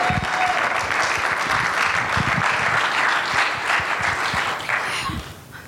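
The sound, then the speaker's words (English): A church audience applauds steadily for a pastor's wife, a dense wash of many hands clapping at an even loudness for several seconds before tapering off slightly at the end. “If we can all give her a round of applause.”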